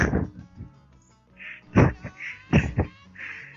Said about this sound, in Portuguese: Ele deu a volta na casa inteira e já tá ali te olhando, né? E começa a miar. Eu não entendo meu gato, eu acho que ele precisa de um psicólogo.